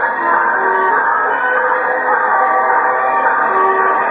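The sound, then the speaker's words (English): A train travelling from Hartford, Connecticut to Highbridge, North Dakota rumbles steadily along with a sustained, droning whistle blowing over the running noise, loud and continuous throughout with no pauses. “$113.52 railroad fare, Hartford, Connecticut to Highbridge, North Dakota”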